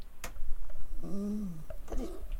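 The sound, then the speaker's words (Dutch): A dog snores in a chair: one drawn-out, buzzing nasal snore followed by a shorter, rougher one, with a brief knock near the start. “Hij snurkt. Hoor je het?”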